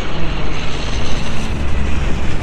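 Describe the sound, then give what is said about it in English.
Aircraft engines start up before takeoff and roar steadily and loudly, a dense, unbroken rumble with a faint higher whine, filling the whole moment with no voices. “start my engines with home and”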